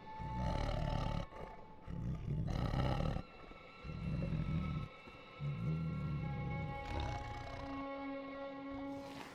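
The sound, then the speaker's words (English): A monstrous roar, deep and rumbling, comes in several loud, rough bursts over a steady eerie drone that lingers on between and after them. “The prophet hears voices, winds, music, the terrifying roar of monsters.”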